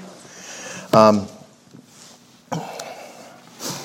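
A muffled, stifled cough bursts out, followed by a couple of quieter throat noises and a short sniff, with no words spoken, from a person with a lingering cough trying not to cough.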